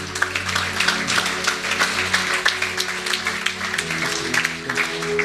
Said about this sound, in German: Hey, gib denen doch mal einen Applaus.